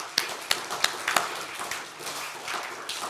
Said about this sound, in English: And Jesus, we just applaud you today for that. Can we do that today? Just applaud Jesus for that today.